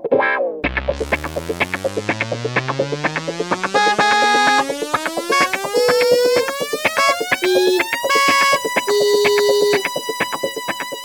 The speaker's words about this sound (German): Und weil sich im Hof der Eisernen Burg ein Sandkasten fand, grub er sogleich ein tiefes Loch hinein, während EMC-Quadrats Taxi fröhlich hupend entschwand.